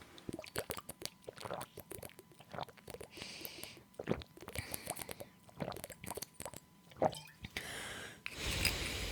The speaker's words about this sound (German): Gut, ich trinke mal einen Schluck. Ich merke gerade, dass ich so einen trockenen Stimme habe.